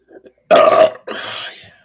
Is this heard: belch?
yes